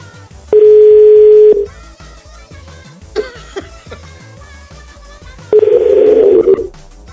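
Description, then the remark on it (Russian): Two long, loud ringback tones about five seconds apart, the steady hum of an outgoing phone call ringing with nobody picking up, with faint background sound in the gap between them. “А как подойти к телефону, когда тебе звонят?”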